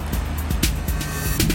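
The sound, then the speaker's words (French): Heavy trucks that brought cranes the day before idle and rumble with a steady low engine drone, broken by short metallic clanks and hissing bursts, at a busy construction site for a new kiln. “Là, c'est les camions qui ont amené les grues hier.”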